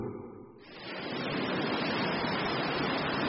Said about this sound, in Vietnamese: Hôm ấy trời thật bình yên và trong trèo, sóng ảo ạt tràn vào bờ cát trắng phẳng lì.